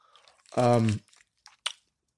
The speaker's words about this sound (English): All right, time for a cough drop. All right. Oh, let's take. I think I should take the paper off. I've been taking these with the paper on.